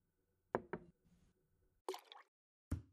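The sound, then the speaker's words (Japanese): A pair of quick, hard knocks of objects set down on a table, then a brighter glassy clatter and one final firm thud, as a bottle of carbonated water and a glass are placed on the table, with no voices. “それでは、炭酸水とコップをご主人様の目の前に置いてください。もちろん丁寧にですよ。”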